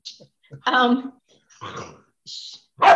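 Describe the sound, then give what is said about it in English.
A female dog barks in a few short, uneven bursts, one drawn out and throaty, with brief pauses and scuffling noise between them. “Dog, you better hush. Don't make me come through that TV.”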